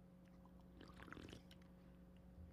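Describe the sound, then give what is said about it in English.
A short, quiet gulp of water: a cluster of soft wet slurps and swallows lasting under a second, with a steady low electrical hum beneath and no talking. “Let me get another drink of my water.”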